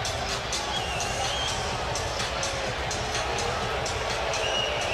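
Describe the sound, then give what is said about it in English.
A basketball arena crowd murmurs during a commercial break in the game, in a steady, dense wash of indistinct voices, with faint high squeaks briefly cutting through the unbroken hum. “The crowd wants to know what's going on, but it's...”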